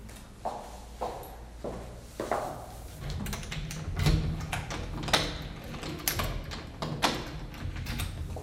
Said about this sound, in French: Attends, je vais fermer la porte, parce que...